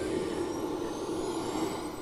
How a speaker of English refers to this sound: As we hear a Chinook fire up its engines, I guess that's what they heard when some of these were leaving that night.